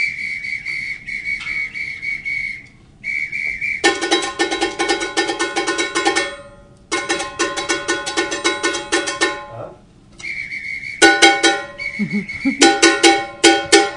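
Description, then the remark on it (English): Shrill, sustained whistle blasts sound in bursts alongside lively, rhythmic metallic clanging percussion, loud, with the whistle dropping out during the busiest drumming passages. “Blowing your whistle.”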